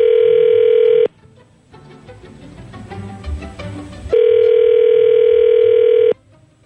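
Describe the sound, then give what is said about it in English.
A loud, steady telephone tone hums for about a second as a phone call is placed, gives way to a few seconds of busy, clicking dialing noise, then the same buzzy tone returns for two more seconds. “When we come back next, we will get Evan on the phone.”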